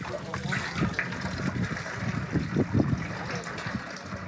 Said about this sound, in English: At the first stop, everyone files toward an outdoor faucet and gathers water to wash their feet. This is Islamic tradition.